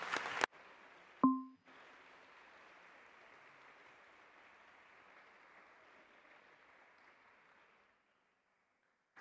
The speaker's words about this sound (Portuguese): E merecemos todos uma salva de palmas.